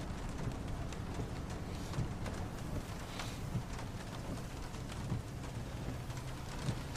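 Heavy rain, suddenly begun from a clear sky, pours down in a steady, dense hiss that holds unbroken for several seconds, with a few heavier drops thudding and no voices.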